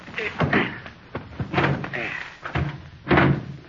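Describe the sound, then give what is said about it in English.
A car door clunks open, then slams shut with a few sharp thuds, while muffled voices murmur underneath. “Well, somebody open the door.”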